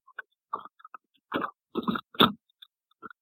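Coyotes calling outside a window, heard through a phone held near the window: a string of short, harsh yips and barks, about eight bursts in an uneven rhythm, a few louder and rougher in the middle, with no sustained howl and no talking.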